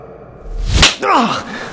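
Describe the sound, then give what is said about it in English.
A quick swish ends in one loud, sharp slap across the face, followed right after by a short voiced gasp or groan. “Someone slapped …, not gently.”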